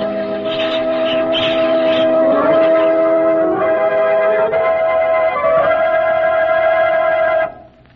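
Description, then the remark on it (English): Church bells rung by the people of Hamelin ring loudly and continuously, their overlapping tones merging into a dense, sustained peal for about seven seconds before cutting off abruptly. No voices are heard. “You should have heard the Hamelin people ringing the bells till they rocked the people.”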